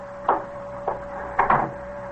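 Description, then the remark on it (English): A door is pulled shut with a few short wooden clunks and a soft latch thud, over a steady low mechanical hum with no talking. “Close the door, will you?”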